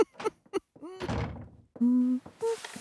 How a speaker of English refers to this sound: Knock, knock.